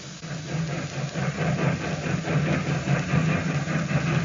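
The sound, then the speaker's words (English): A train pulls out of a station, leaving for Washington, heard as a steady, heavy low rumble with a droning engine hum that holds fairly even throughout, with no voices. “As the train pulled out, Villard, who was traveling on it, approached the sad-faced man in his private coach.”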